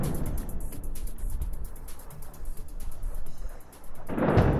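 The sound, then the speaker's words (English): Explosions in Beirut rumble low and heavy, a continuous booming roll like thunder, ending in a sudden louder blast that swells at the close. No one speaks. “Sounds of explosions in Beirut.”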